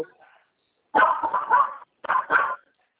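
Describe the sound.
A voice imitates a dog's yapping bark in two close, loud bursts of rough, whiny barks, with a short pause between them and a faint murmur at the start.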